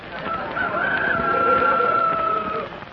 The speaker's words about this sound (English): Chickens, partly.